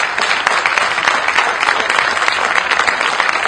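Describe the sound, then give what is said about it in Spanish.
Steady, dense applause from a crowd at the inauguration of a thermal complex in Necochea, a continuous crackling wash of many hands clapping at a fairly loud level, with no pauses and no voices rising above it. “y en la primera inauguración de un hombre que fue un visionario, un hombre que apostó mucho a Necochea, y quiero que le rindamos un fuerte aplauso.”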